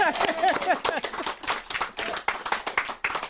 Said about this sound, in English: Yeah. I think we can clap for that.